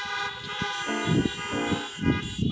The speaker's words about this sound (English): let's give a big honk for our guest. Everybody honk for our guest.